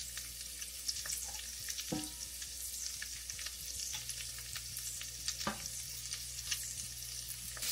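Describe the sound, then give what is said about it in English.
Sauteed green beans sizzle steadily in a skillet, a bright hissing crackle with scattered small pops and a couple of sharper snaps, over a low constant hum and no talking. “All right, we've got our green beans crackling in the back, and we're gonna go ahead and add our delicious risotto balls to the pan.”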